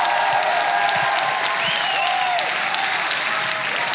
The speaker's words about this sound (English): But if this is your word, shout to God and clap your hands, oh ye people.